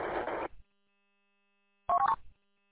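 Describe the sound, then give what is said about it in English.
A short burst of hiss gives way to silence, then a quick, loud cluster of telephone touch-tone dialing beeps lasting about half a second as a phone call is made. No one speaks. “Hey, well, I need to make a phone call real quick, but I'll be back in 5 minutes or so.”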